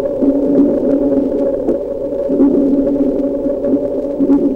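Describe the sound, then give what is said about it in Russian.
Dolphin echolocation clicks, echoes bouncing off underwater objects, recorded underwater and slowed down 64 times, turned into a continuous low, droning rumble with repeated soft pulses, like an organ or far-off thunder, with no voices. “Еще лучше эхо будет слышно, если замедлить запись дельфинов в 64 раза.”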